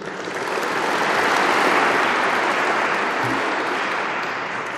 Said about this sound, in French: Je demande à ces lauréats de bien vouloir se lever afin que nous puissions les applaudir.